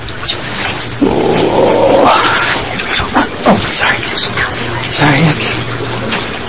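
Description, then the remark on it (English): A single loud, noisy sneeze bursts out over a low steady hum, rising and then trailing off after about a second, followed by a murmur of voices. “Okay. Bless you.”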